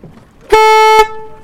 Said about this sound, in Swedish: Där gick startskottet.